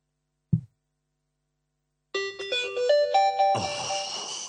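A soft click as a retro Binatone brick mobile phone is turned on, then after a pause a short electronic jingle of bright, rising synth notes in quick steps, ending on a sustained, buzzy chord. Clear, with no talking.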